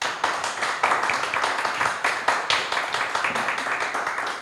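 Steady audience applause fills the whole stretch as guests are introduced, many hands clapping in a dense, continuous patter with no talking over it.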